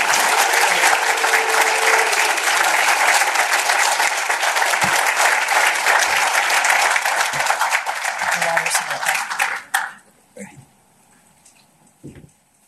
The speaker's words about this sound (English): So very proud of the work that he's done. We are about to welcome him to the stage. I'd like for everybody to give a round of rousing applause for Representative Buckner.